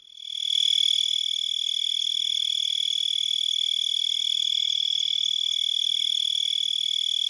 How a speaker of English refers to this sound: And we actually have a little bit of tree cricket sound, because I think most of us know what the field crickets sound like. But here's tree crickets.